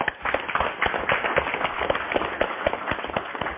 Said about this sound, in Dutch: Maar hartelijk dank voor de geweldige ondersteuning die je de afgelopen periode hebt verricht. Dus daar krijg je een applaus voor.